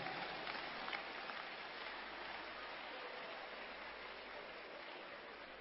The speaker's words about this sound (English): Church, clap your hands for Jesus Christ.